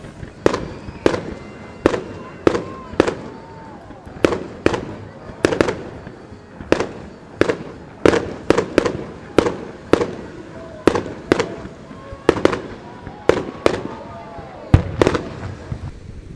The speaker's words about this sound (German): Und wie ihr hört, das Feuerwerk so im Hintergrund von rechts und links so ein bisschen im Stereo.